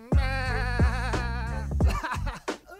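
Sheep bleat loudly, several wavering cries in quick succession, overlapping at times, followed by a few shorter, rougher bleats toward the end.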